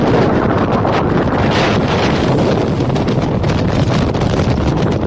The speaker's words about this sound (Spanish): Nieve y fuerte viento allí en el techo de la provincia de Castellón.